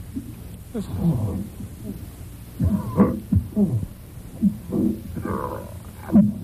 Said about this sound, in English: Oh, jeez. I think what I don't like is, this is a danger, this is bad. This is a how not to, because this will give you bad problems. The way he strains like that, that's bad.